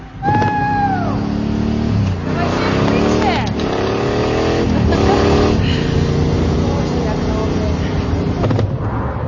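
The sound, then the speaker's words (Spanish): A Mercedes car engine revs hard and accelerates in repeated rising surges as the car leaves a car park and chases a motorcycle along a street. Loud, with a brief high squeal at the start and a continuous roaring drone underneath. “El Mercedes sale. En una calle, persigue a la moto.”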